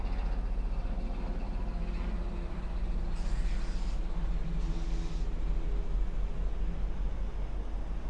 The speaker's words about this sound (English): And here comes a helicopter.